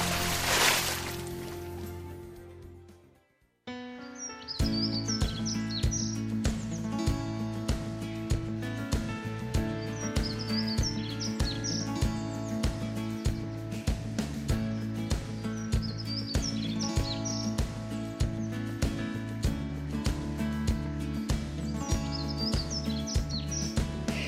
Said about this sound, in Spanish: Suenan pajaritos, suena esta sintonía